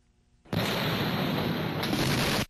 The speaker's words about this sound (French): Deux grosses explosions à quelques secondes d'intervalle. Les détonations étaient si puissantes que les riverains ont cru à un tremblement de terre, une boule de feu géante et des nuages de poussière.